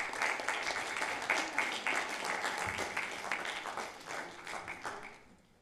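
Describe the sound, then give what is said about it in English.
A crowd gives a round of applause for a religious leader, with dense, steady clapping that holds for several seconds, then tapers off toward the end. “Can you give a round of applause for our religious leader this morning?”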